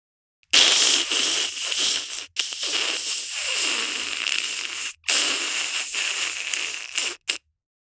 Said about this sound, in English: Egg frying.